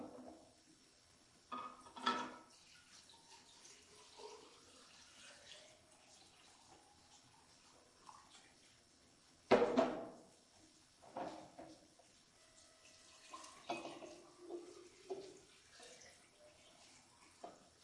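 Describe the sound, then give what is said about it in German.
Water is poured into jugs, one holding stones and one empty, in uneven bursts, splashing and gurgling with rising, bubbly tones until the empty jug is full to the brim. One sharp, louder splash stands out midway, and no one speaks. “Der Krug mit Steine, da hat ja nicht so viel Wasserplatz wie in dem leeren Krug.”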